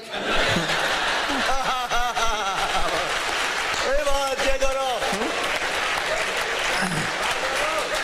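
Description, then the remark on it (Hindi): A large audience claps steadily throughout, with loud bursts of laughter rising over the applause in several waves, reacting to a comedian's joke. “बस इसी तरह तालियां बजती रहेगी, एक एक लाइन में आपको मजा आएगा और ये सुंदर कांड आधी रात तक चलता रहेगा।”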